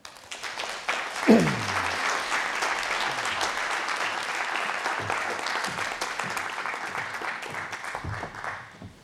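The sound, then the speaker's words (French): A room full of people claps steadily after a lecture on philology, a dense, even wash of applause that holds at the same strength for about nine seconds before tapering slightly at the end. “J'applaudis d'autant plus volontiers que je suis de votre avis.”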